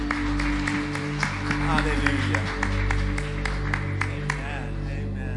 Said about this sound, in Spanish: Un aplauso a Dios.